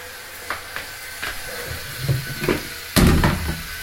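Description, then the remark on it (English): A LitterMaid automatic self-cleaning litter box runs, its steady mechanical hum broken by scattered clicks and scrapes, then a louder clunk near the end. “what is it called? Litter maid.”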